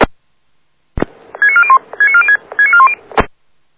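A phone number is dialed to call the AC: three quick bursts of beeping keypad tones at steady, shifting pitches, framed by sharp clicks at the start and end, over a low background hum.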